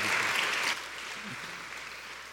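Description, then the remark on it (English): A crowd of the Orchard community applauding to welcome a speaker, loud and dense at first, then dropping after under a second to a softer, sustained clapping that continues to the end. “And so, Orchard, would you give a very warm welcome to my brother,”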